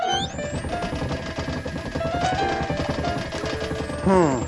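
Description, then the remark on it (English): Water pipes bang and clank in a rapid, steady stream of knocks lasting several seconds, fairly loud and clattering, with a brief voice breaking in right at the end. “Looks like a problem with the pipes again.”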